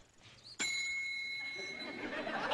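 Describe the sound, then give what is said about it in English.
A single bright ding from a hotel front desk bell, rung by a guest checking in, with a sharp strike and a clear metallic tone that rings on and slowly fades, while people chatter and laugh softly in the background. “Can I ring the bell? Okay, you ring the bell.”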